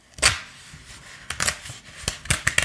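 A safe with gears, a digital number display and a dial like an old rotary telephone's being opened: a string of sharp mechanical clicks and clunks, irregularly spaced, with a bright rattling burst at the start and a quick cluster of clacks near the end, no voices.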